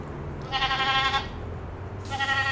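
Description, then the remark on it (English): A prize goat being given a bath by a girl in a breezy livestock barn at the 2013 Washington County Fair, on an afternoon around 100 degrees, bleats twice, loud, each call a wavering, nasal cry lasting under a second, with a low rumble of barn background noise underneath and no talking. “gives her prize goat Rebel a bath”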